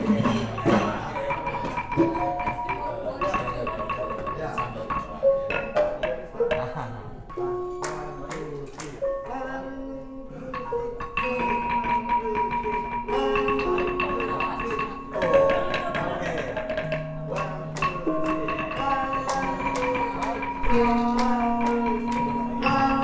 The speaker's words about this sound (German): Vor dem eigentlichen Konzert mit Musik aus West-Java wird das Publikum auf die Bühne gebeten und darf sich unter der Anleitung der indonesischen Experten an Xylophon, Gong, Gamelan und anderen exotischen Instrumenten versuchen.